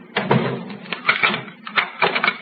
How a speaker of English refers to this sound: Well, can't you wait until I close the door?